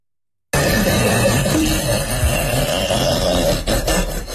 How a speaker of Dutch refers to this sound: Het klinkt net alsof Chewbacca hier een boer laat, joh.